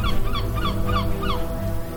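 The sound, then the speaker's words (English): Seagulls flying over a beach in Gaza at sunrise call repeatedly in short, harsh cries, several in quick succession over a steady low rumble of sea breeze or surf. No one speaks. “Seagulls flying over the beach.”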